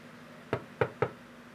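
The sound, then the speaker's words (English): Three firm knocks on a wooden back door, the first slightly apart and the last two coming quicker, each a sharp thud standing out clearly against a quiet background with no one talking. “I'm at your back door. Can you answer, please?”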